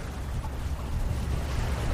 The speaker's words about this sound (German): Das Rauschen und das Plätschern des Indischen Ozeans.